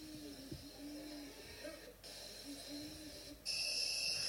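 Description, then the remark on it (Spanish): An owl hoots in a series of low, drawn-out calls over a steady hissing background. A shrill, constant high-pitched whine grows louder near the end. “No está llorando, loco. Solo es un búho normal.”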